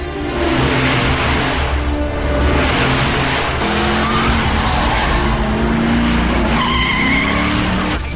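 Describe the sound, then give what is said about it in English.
Cars roar past at speed, engines revving loudly, with screeching tires as they swerve from lane to lane, a dense, continuous rush of traffic noise and no voices. “The muggers switch from lane to lane.”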